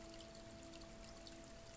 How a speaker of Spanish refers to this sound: También vamos a echarle agua.